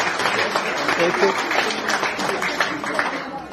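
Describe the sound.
Steady audience applause thanking a speaker for his speech fills the whole stretch, a dense, even wash of many hands clapping at constant loudness, with murmuring voices mixed underneath.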